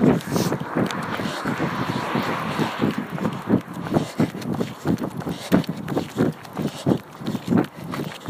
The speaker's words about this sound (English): I love hearing my feet on the dirt and the gravel.